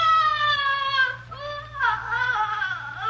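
A piercing shriek, sounding almost like a trapped animal, comes from somewhere in a house, wailing on without pause for about three seconds, its pitch wavering and sliding, over a steady low hum, with no one talking.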